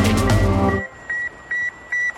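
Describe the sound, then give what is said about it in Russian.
An old ICQ instant messenger notification sound: a brief, rich electronic chime, then three short, evenly spaced high beeps ringing out alone in the quiet. No voices. “От ностальгических звуков ICQ мы переносимся в сегодняшний день”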